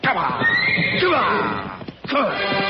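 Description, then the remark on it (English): Horses whinny loudly in a string of shrill, wavering neighs, with a brief pause before another high whinny rises and falls, and faint hoof clops underneath, as the horses smell a cat and refuse to go into a canyon. “The horses smell the cat. They won't go in that canyon.”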